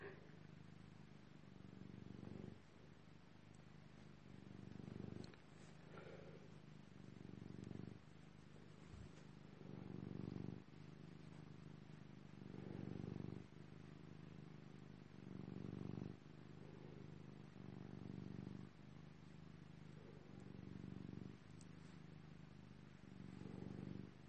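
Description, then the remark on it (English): A male pet cat purrs steadily, a low rumbling drone that swells and eases in a slow rhythm with each breath, continuing without pause and with no voices. “Why should I say anything when you can listen to his purring?”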